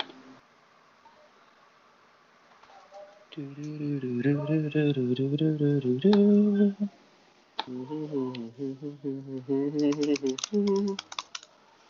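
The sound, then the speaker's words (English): Quick, light keyboard clicks from someone typing, partly buried under a loud wavering buzz or hum, with the tapping growing denser in a brief burst near the end. “What are you typing?”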